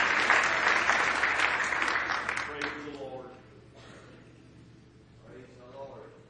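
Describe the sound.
Loud, dense applause from an audience for about three seconds as a man is called up to sing, then fading out as a man's voice begins speaking over the last scattered claps.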